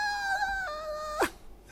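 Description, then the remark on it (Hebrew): A voice imitates excited screaming with a long, high, steady squeal that steps down slightly in pitch partway through, then breaks off in a quick shrill swoop. No talking around it. It imitates a teenage daughter's excited screams over news that a classmate got engaged. “צעקות!”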